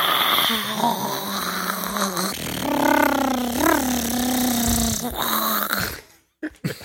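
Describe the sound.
A voice imitates a clicker, a zombie-like infected creature from The Last of Us, with a strained, gurgling, growling groan, wavering in pitch for about six seconds before cutting off abruptly.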